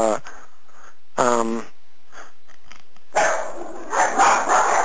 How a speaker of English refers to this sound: Could you put your phone on mute, Cheryl? I think that's, I don't know if those are your dogs.